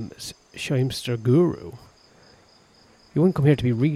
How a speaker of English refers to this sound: Can you hear the jungle? I know I play music, but you can hear the jungle in the background as well. It's a whole atmosphere we've got going on.